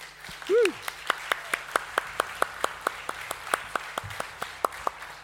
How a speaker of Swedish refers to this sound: Tack ska ni ha. Det unga lovsångsteamet. Ska vi klappa om dem eller?